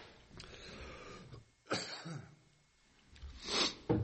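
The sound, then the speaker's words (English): Two or three harsh, congested coughs from lingering congestion during a live broadcast, spaced a second or two apart, with breathy rasping between them and no talking. “See, on Beyond Today, you could actually just cut out that cough and just...”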